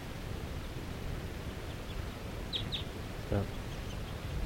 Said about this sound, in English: So this is one of the wild birds calling from that tall fir tree by itself.